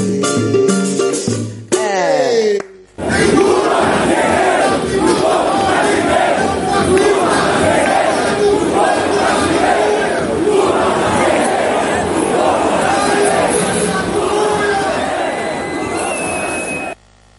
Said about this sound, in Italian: Questo era il grido della folla, della gente che chiede la libertà dell'ex presidente incarcerato assurdamente